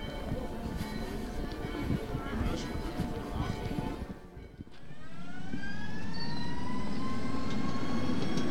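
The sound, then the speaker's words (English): A tram rumbles by loudly on a city street in Prague, between Prague Castle and Old Town, then its electric motor whines steadily higher as it accelerates away, with faint background voices. “Walking down from the castle, I pass several tram stops that decorate Prague as I get closer to Old Town.”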